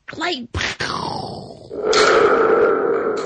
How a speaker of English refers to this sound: Somebody chided me the other day because I haven't been using the Thunder Tube enough. I'm like, I'm sorry, you man. You can't overuse the Thunder Tube, I know, man.